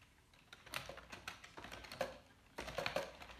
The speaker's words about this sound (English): That is me typing. I type pretty quick, so they can hear me throughout the office, typically pecking away at my computer.